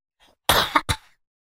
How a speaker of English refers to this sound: I'm fighting a cough here.